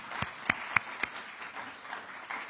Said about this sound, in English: Thank God to JLI, and I see Rabbi Mintz just walked in. I want to acknowledge him. Thank the JLI. Should we give him an applause?